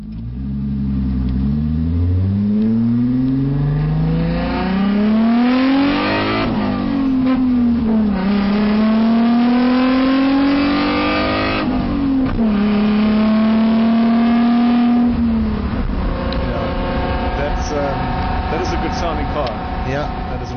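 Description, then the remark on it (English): An Alfa Romeo GT V6 road car engine, recorded onboard while driving, revs hard, its pitch climbing in several long sweeps as it shifts up through the gears, then settling into a steady, loud drone. “Yeah, that was onboard footage of a road car driving.”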